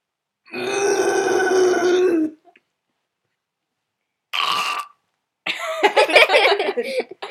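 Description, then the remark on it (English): A person taking turns at animal impressions gives a long, loud, throaty growl in imitation of a bear, then a shorter rough grunt, followed by a burst of breathy, ragged vocal noise. “The first animal is going to be a bear.”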